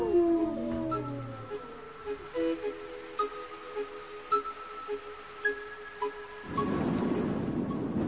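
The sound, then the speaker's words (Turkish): Several wolves howl together in long, wavering, overlapping cries that rise and slide in pitch, fading toward the end before a burst of rushing, wind-like noise takes over. “Başka aç bir kurt sürüsüyle karşılaşmadan şu kasabaya varalım istiyorum.”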